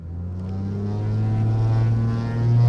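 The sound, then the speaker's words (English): A pilot fires up the engine of a Cape Air 9-seat propeller plane at a rural airport in Hagerstown, Maryland, before taking off for Baltimore; a steady low throbbing drone swelling louder as it revs, with no voices over it. “At least four times a day, a Cape Air pilot fires up a 9-seat propeller plane in Hagerstown, Maryland, and takes off for Baltimore, sometimes with no passengers aboard.”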